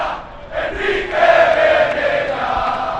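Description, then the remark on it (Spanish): A large crowd of Hércules supporters shouts at the Rico Pérez stadium before the match against Alcira. The dense, continuous roar swells louder after the first half-second and holds steady, with a sustained chant-like pitch rising out of the din. “Se está escuchando esos gritos.”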